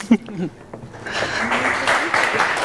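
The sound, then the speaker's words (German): Applause from an audience at a talk event builds up after a brief voice, welcoming two speakers onto the stage, swelling into a steady, dense clatter of many hands clapping that keeps rising in loudness to the end. “Bühne frei für euch zwei und Ihnen viel Vergnügen. Danke. Ja. Applaus.”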